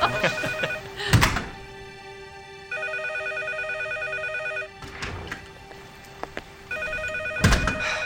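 A telephone rings in two long, steady bursts with a pause between, clear, while a few dull thumps and bumps sound around it.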